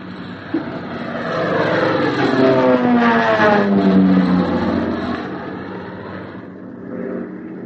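A steady airplane engine drone of a plane in flight, homeward bound, fills the scene, its tone swelling louder and shifting in pitch midway before easing back, heard alone with no voices.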